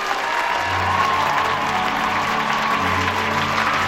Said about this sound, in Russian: Отступив, Гарри хлопает в ладоши. Сначала Рон и Гермиона, а затем и остальные студенты, поднявшись, аплодируют Хагриду.